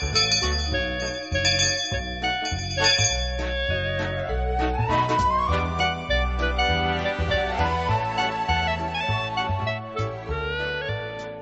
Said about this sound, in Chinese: 每当听到这个铃声的时候呢，素琴就会在那里想，到底在收音机旁边有多少个听众朋友在那里上课呢